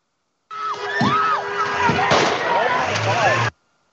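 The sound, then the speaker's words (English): A single sharp gunshot cracks through a busy, noisy scene with voices and commotion, coming just before the driver starts accelerating; soon after, a low engine rumble rises as the car's RPMs pick up. “So the shot came just before he started accelerating. You could hear the engine pick up the RPMs.”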